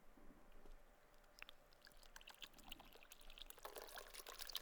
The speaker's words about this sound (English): Really nice on the outside, dirty on the inside. So if I was going to take some water and pour it into this cup, what do you think would overflow?